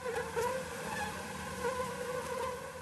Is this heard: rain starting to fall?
no